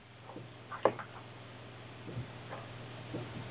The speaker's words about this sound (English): So let me log in. I can't even tell you what it says. And bear with me, folks. As you can hear, I have a mechanical keyboard.